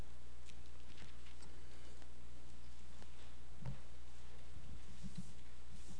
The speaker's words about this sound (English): Now, I know some of you have electronic devices, and that's okay, but it's refreshing to still hear some pages turning.